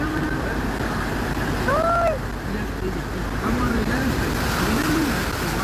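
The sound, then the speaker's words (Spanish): A pickup truck surges through deep floodwater on a flooded street during rain in Chile, a steady loud rush of splashing and churning water throughout, with brief voices exclaiming over it. “Oye, pero mira la cantidad de agua. ¿Es una lancha o una camioneta?”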